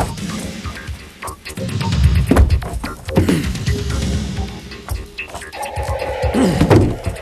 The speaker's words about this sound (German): Gehen Sie zur Seite, ich breche die Tür auf.